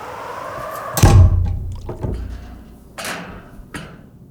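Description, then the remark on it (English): The heavy hatch door of a small submarine named Atlantis, placed in a break in the ice, swings shut with a loud, deep thunk that rings briefly, followed by three lighter clunks spaced about a second apart, like latches being secured. No one speaks. “Let me just climb in, close up the hatch door.”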